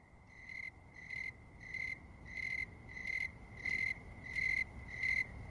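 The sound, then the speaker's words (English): A snowy tree cricket chirps in a slow, steady rhythm, eight or nine evenly spaced, clear, high-pitched chirps over a soft background hiss, with no voices. “Writing about the autumnal snowy tree cricket, Nathaniel Hawthorne said, "If moonlight could be heard, it would sound like that."”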